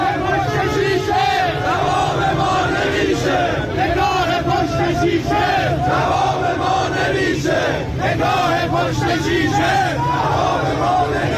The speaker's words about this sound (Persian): یه سری مال باخته دیگه اونور جمع شدن جلوی دادگستری دارن شعار میدن اینجوری.